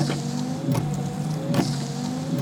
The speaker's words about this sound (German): Draußen rieselten kleine Schneeflocken auf die Scheibe und der Vater schaltete den Scheibenwischer ein.